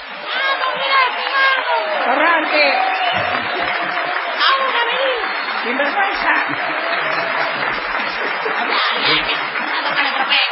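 A large audience cheers loudly and steadily in an ovation for a musician, a dense wash of applause with shouting voices rising out of it, sustained without a break from start to finish.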